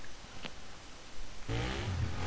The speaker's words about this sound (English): The larger-than-life vehicles and gives you the chance to compete in ongoing championships called summits all over the United States. Ladies and gentlemen, start your engines.